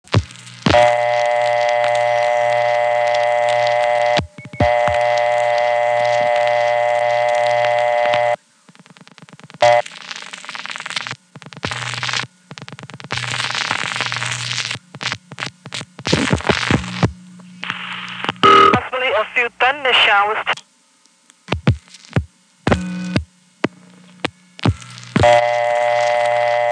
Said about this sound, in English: Here's a call to the weather, first in its original incarnation, where 936 plus any four digits just clicked right into the weather, sometimes preceded by a brief ringtone.